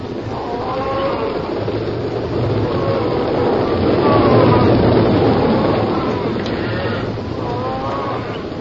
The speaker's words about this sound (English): The muffled thud of cattle on the move. There was the clack of horns and the bawling of the steers. But these sounds were swallowed quickly in the rhythmic thunder of many hooves that were like vague drum beats in the night.